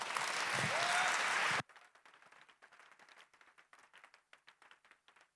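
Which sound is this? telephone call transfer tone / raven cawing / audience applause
audience applause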